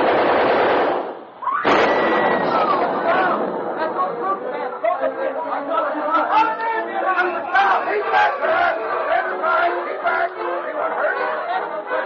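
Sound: machine gun firing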